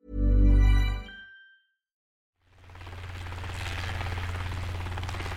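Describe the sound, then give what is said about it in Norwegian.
A low musical tone fades out, and after a short silence a helicopter's rotor chop rises and holds steady, a loud, throbbing whir; a helicopter in a police search of the area around a home. “Helikopter, hunder og søkekjeder av politifolk finkjemmet området rundt Sølve og Irenes bolig.”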